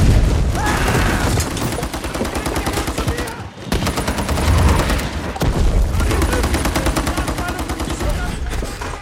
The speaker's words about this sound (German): weil so viele Explosionen in dem Film sind, wahnsinnig viel lautes Kampfgeschehen.